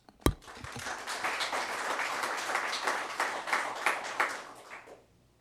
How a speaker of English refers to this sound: So please, when you see them, and then we'll give them some applause.